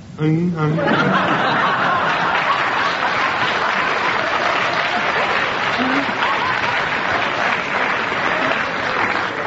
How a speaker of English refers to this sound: I will decide that the audience applause means that they agree with your challenge.